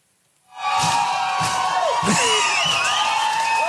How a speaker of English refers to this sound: Wow. What a crowd. They love you. They absolutely love you. They adore you. I mean, we're maybe holding them hostage, but yeah.